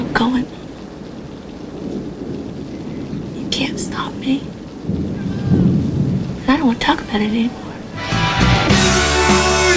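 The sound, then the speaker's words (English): Steady rain hisses throughout a thunderstorm, with low rumbles building and a loud, crackling burst near the end. Voices speak faintly beneath the storm. “The rain's coming in.”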